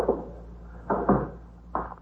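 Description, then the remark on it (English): A lieutenant's office door is pushed shut with a few dull, muffled knocks and thumps spaced over two seconds, over a steady low hum with no voices. “Shut the door, will you”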